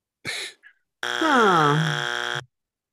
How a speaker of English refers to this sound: And if I could just play that buzzer noise for like a good 2 minutes without anybody getting annoyed by it there, I would